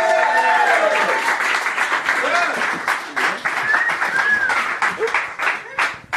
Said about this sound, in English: Round of applause.